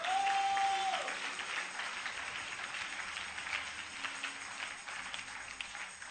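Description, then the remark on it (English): An audience at a church worship service claps unto the Lord in a dense, steady burst of applause that fills the room for several seconds, with a brief sustained tone ringing out at the very start. “I thought you would clap unto the Lord.”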